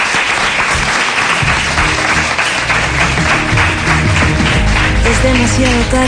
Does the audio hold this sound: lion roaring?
no